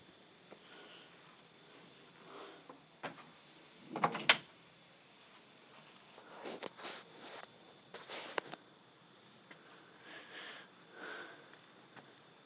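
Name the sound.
door opening and footsteps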